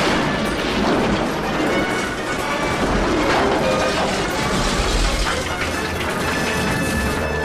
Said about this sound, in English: It hurls an iron bar at Chandler. It smashes lengths of girder around with such force that chunks of the concrete structure begin to fall inwards.